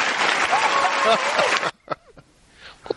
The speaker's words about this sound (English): Let's give him an applause and a scream. He get a scream?